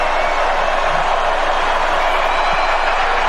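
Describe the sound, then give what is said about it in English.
A stadium crowd oohs and aahs after Chambliss throws the ball into harm's way, in a loud, steady wash of many voices that holds at the same level for about three seconds, with no single speaker standing out. “Chambliss threw it into harm's way, and the crowd oohs and ahs.”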